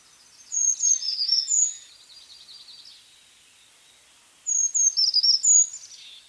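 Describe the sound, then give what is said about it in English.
Two short, high-pitched bird songs, each a thin run of sweet, tinkling notes lasting about a second, separated by a few seconds of quiet; a male brown creeper singing clearly, with no voices. “It appears that in adjacent areas, brown creeper populations might learn parts of their songs from each other.”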